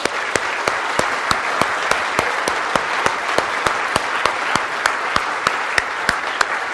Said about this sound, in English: really need a round of applause for putting this together, and I'd like to take a moment to do that.